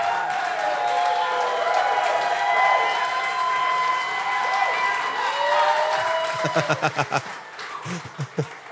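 A live audience claps and cheers loudly for a guest musician being introduced, with whoops rising over steady applause, which thins toward the end into a handful of distinct, separate claps.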